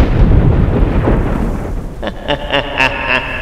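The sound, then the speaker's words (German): Loud, deep thunder suddenly rumbles and rolls for a couple of seconds as the sky turns black, then gives way to a series of short, ringing tonal bursts over a fading low background. “Plötzlich beginnt es zu donnern, der Himmel färbt sich schwarz und ein schemenhaftes Gesicht ist am Himmel zu erkennen.”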